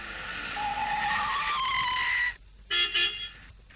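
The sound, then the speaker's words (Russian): A car pulls up to a house at an address in an unfamiliar town shortly before midnight, with a loud, drawn-out squeal of tires braking to a stop, followed by two short honks of its horn. No one speaks. “И вот он подъехал к дому по нужному адресу.”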